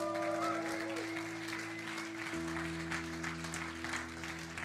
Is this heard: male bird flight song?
no